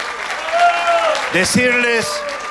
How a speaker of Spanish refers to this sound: de mirar al futuro de la mano del mejor líder y político que tiene la provincia de Jujuy, que es nuestro querido gobernador Gerardo Morales, que pide un aplauso.